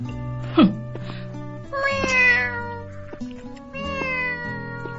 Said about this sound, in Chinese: 喵 喵。哎，小猫咪耶，嘿嘿，就是你了，嘿 嘿。喵喵。